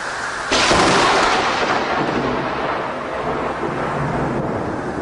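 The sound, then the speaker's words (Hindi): A sudden loud crack of thunder bursts in and rolls on into a sustained, heavy rumble, with a dense wash of steady rain hissing underneath throughout. No voices. “पता है एक बार दो पागल छत पर सो रहे थे, तभी अचानक बारिश होने लगी।”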